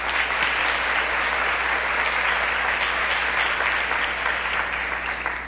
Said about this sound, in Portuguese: Então, da nossa parte, da parte da paróquia, só nos resta agradecer com a salva de palmas.